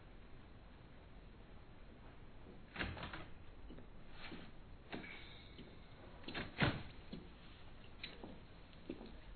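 door opening and closing

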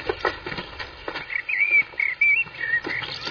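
bird chirping

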